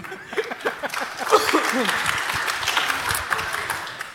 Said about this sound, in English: Yeah, this is an applause.